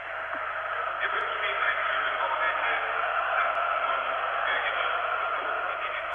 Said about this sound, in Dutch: Luistert u even mee naar het publiek.